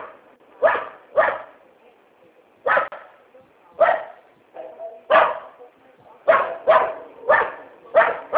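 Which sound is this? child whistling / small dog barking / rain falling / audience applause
small dog barking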